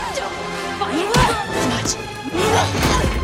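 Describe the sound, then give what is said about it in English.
Heavy fight impacts land in a quick series of thuds and crashes as one black-clad woman punches another hard into clattering metal machinery, with swishes of movement between the blows. “Hershey spots Hayden struggling to her feet and she punches her into the machinery.”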